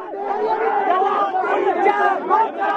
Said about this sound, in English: A crowd of students gathers outside India's parliament in the heart of the capital. Police, armed with heavy wooden sticks and water cannon, block their path. Scuffles break out.